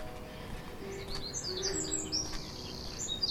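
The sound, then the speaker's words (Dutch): A woodpecker calls in short, high, sharp notes over a steady outdoor hum, with a few other bird chirps mixed in, at a fort in the Netherlands in spring. “Ook daar nou een specht.”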